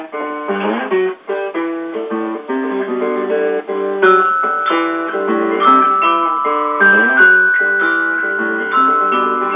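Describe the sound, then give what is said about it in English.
A glockenspiel plays a bright, tinkling melody of quick metallic notes, steady and fairly loud throughout, with no voices over it. “Now we're going to try one with the glockenspiel, and maybe then we'll check back in with you again.”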